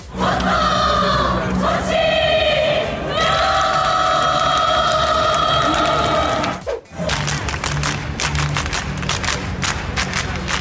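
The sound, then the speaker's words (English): A loud cheer squad chants together in long, sustained unison tones at a hockey game after their team lost 8-0, then after a brief cut the chanting continues over steady, rhythmic clapping or drumbeats. “Well, they're going to a whole bunch of different events, and they cheer no matter what, but they acted like this when their team lost 8-0 in a hockey game.”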